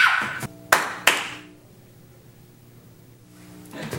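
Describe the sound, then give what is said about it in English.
Three sharp hand claps in quick, uneven succession ring out, followed by a low steady hum and a faint swell of noise at the end. “You know the clap was the first gadget I ever invented?”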